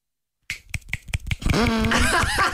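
Roughly half a dozen sharp, uneven claps, thin and somewhat muffled, made while holding a mobile phone in one hand, followed by a loud, sustained voice with a wavering pitch.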